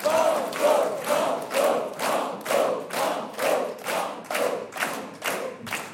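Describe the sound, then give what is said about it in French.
The studio audience of a radio quiz game shouts together in a steady chant, about a dozen loud, evenly spaced bursts of massed voices, with no single speaker heard above it. “On va suivre la foule nombreuse.”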